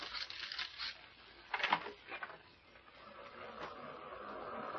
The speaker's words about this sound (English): you might draw the curtains and open the glass doors a moment. I want the gentlemen to have a look at the view from this room.